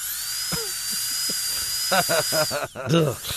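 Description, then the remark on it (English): A dentist's drill whirs with a thin, steady high-pitched whine that holds for about three seconds, while muffled voices murmur underneath toward the end. “The eerie sound of the dentist drill”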